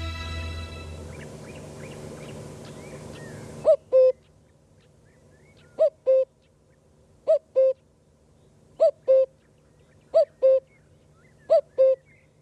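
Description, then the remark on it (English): A common cuckoo calls its clear two-note 'cuck-oo' six times at steady intervals, distinct over a quiet background, following a brief stretch of dense, noisy sound. “Lovely to hear the unmistakable but unfortunately increasingly rare sound of the common cuckoo.”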